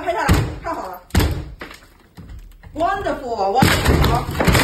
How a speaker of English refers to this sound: The entire building is being taken to. And when you say taken to, I mean, they are literally kicking down the doors. Take a look at this video of them coming for one family.